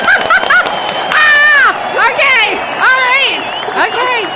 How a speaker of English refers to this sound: Where's the applause